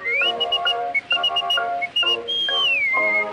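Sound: human whistling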